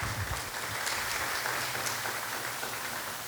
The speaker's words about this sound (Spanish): ¿No te pones contento por eso? Dale una ofrenda de palmas a Dios por eso.